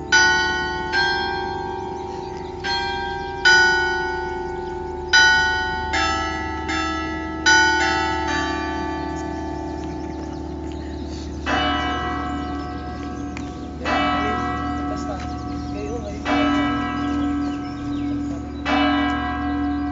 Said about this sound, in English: The basilica bells ring the tune of Ave Maria before chiming out the hour.